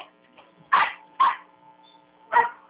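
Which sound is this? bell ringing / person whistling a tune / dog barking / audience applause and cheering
dog barking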